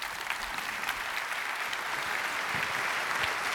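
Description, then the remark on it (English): An audience applauds steadily, a dense wash of many hands clapping at an even, moderate loudness that holds for a few seconds without letting up. “Those are, that's real appropriate applause.”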